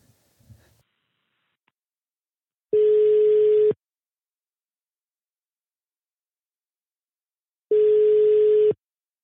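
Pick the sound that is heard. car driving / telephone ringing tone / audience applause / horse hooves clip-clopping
telephone ringing tone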